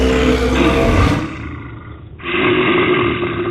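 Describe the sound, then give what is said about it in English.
A deep, guttural grizzly bear roar bellows loudly, rough and growling, then breaks off briefly before a second rumbling roar surges back in, with no voices. The grizzly stands nearly as tall as a cabin roof. “My soul utterly sank when a roar beat the air.”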